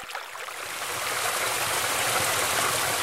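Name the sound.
waterfall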